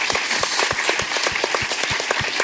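An audience at a show applauds steadily, a dense wash of many hands clapping with a few sharper claps standing out in a fairly regular rhythm, sustained throughout.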